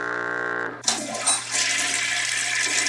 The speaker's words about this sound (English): I hate to hit the flush button there, but I mean, it's